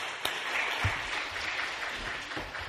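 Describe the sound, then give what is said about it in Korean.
A church audience claps steadily to welcome a deacon's testimony interview at a training completion ceremony after the worship service, a dense wash of many hands with no clear beat, holding at a fairly even loudness throughout, with a few stronger low thumps mixed into the patter. “우리 박수를 모시겠습니다.”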